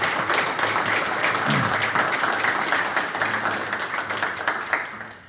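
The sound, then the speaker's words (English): An audience applauds award finalists steadily, a dense wash of many hands clapping at once, holding strong for several seconds before tapering off slightly toward the end. “Can we give all of those finalists a round of applause?”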